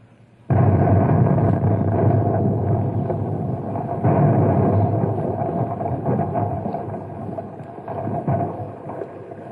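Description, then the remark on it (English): A Compound C explosive charge, set off by pulling a wire, goes off with an abrupt, loud blast, then a heavy, steady roar and rumble carries on for several seconds before easing slightly. No one speaks. “How'd you like to pull the wire and detonate the Compound C?”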